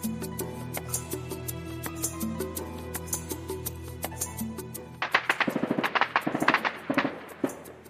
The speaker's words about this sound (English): What was that? That was gunfire. Yeah, that was gunfire. That was violence down there. Unless they're celebrating New Year's Eve early. But no, that was gunfire for sure. Yeah, there was like a machine gun fire down there.